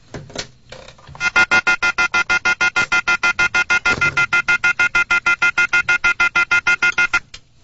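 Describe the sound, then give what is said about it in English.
A telephone rings with a rapid, steady electronic trill of evenly spaced pulses, loud, running for about six seconds before stopping, with no one speaking. “Do we hear it ringing?”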